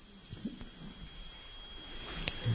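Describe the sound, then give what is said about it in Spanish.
A faint, steady high-pitched electronic tone whines continuously through the background, with soft background noise and a few low thumps beneath it; no one speaks. “Está haciendo un pitido, ¿verdad?”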